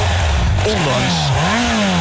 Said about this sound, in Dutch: Ondanks gewoon de standaard uitlaat, hoor. Een mooie viercilindertje. Standaard? Standaard Honda CBR 600 RR geluid.